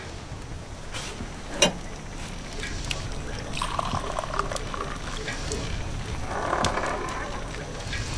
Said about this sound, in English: Each night as darkness fell, I rowed the black stretch of ocean to a neighbouring barren island where the local peasants buried their dead. Each night before the dawn, I rowed back with a boat full of rotten human flesh.